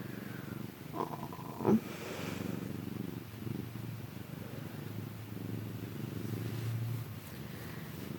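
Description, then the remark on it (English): A 17-year-old male cat purring, a steady low rumbling drone that continues throughout, with a brief soft bump or rustle near the start. “You're the best kitty ever.”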